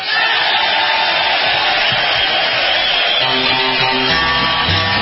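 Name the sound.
audience clapping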